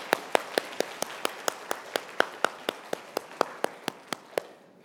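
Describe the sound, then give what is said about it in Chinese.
A church audience claps together to celebrate Father's Day for the fathers present, in a steady, even rhythm, roughly four crisp claps per second, moderately loud, with no voices over it before it stops. “都不少啊，我们一起鼓掌帮他们庆祝父亲节快乐好吗？”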